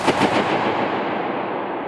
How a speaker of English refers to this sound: Bursting a balloon was one of his favorites.